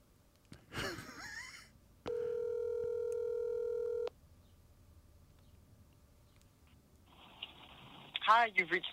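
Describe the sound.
A phone call being placed: a brief chirpy burst, then a steady electronic ringback tone holding for about two seconds before cutting off, with a voice rising at the very end.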